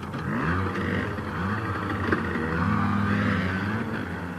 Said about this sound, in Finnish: Ja niin, mopot kaasuttivat paikalta, mutta hiljaista ei tullut vieläkään.